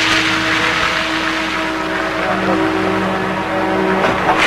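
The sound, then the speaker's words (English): A female police officer starts a squad car and drives it into a fenced yard; the engine runs loud, a steady droning hum with a slight rise in pitch as it pulls away, with no voices present. “She starts the squad car, then drives into a fenced yard.”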